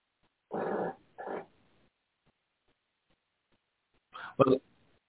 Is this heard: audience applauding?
no